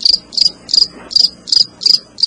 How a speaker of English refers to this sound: Just a cricket, just the dead of the night.